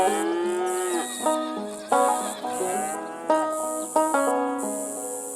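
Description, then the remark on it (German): Cows moo repeatedly in the calm countryside landscape of a video game, long low drawn-out calls overlapping one another, with a steady high chirping of crickets in the background. “Es blöken Schafe, muhen Kühe und zirpen die Grillen.”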